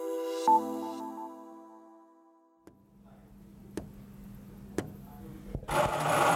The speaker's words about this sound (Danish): Stop lige kaffemaskinen en gang. Vi skal ikke have kaffe i dag,